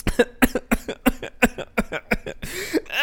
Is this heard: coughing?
yes